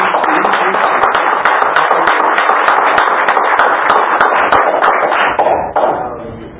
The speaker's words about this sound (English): That's right. Let's give God a hand clap.